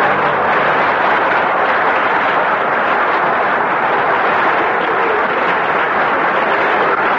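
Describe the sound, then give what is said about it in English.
An audience applauds loudly during a show on the NBC network, a dense, steady wash of clapping that holds at the same level for about seven seconds with no voices standing out. “No applause, please. No applause.”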